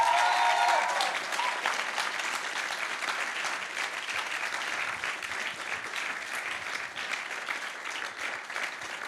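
A crowd applauds steadily for several seconds, dense clapping at an even loudness, with a brief whistle-like tone and faint voices at the very start.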